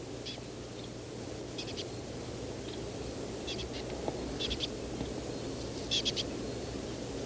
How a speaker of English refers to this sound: Aiming at the bird that appears to be making this call. I've gotten within 3-4 meters.